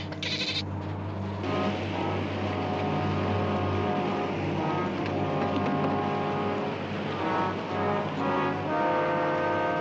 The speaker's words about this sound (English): out to sea. We're at sea. Okay?